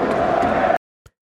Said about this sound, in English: And this sound indeed comes from a football stadium and from football fans cheering in a stadium.